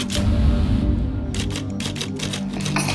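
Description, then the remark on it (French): Mechanical typewriter keys strike in a quick, uneven run of sharp clacks, fairly loud, over a low background hum with no voices. “C'est pourquoi j'ai toujours privilégié le papier et la machine à écrire.”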